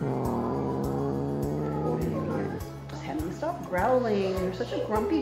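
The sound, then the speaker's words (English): A female cat growls, a low, rumbling drone that shifts into higher, wavering yowls partway through, fairly loud with no talking over it. “Growling. You're such a grumpy girl.”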